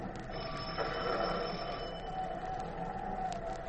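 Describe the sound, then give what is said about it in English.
A doorbell, rung from the porch of a house on Palmer Road, sounds in one continuous, shrill burst that lasts the whole moment, steady and fairly loud over a dense background hum, with no one speaking. “We stood on the porch and rang the bell.”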